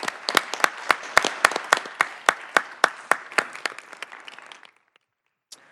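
A short round of applause from a small group at a city planning commission meeting, with crisp individual claps standing out over a dense patter, fading out after about four and a half seconds, then one last stray clap.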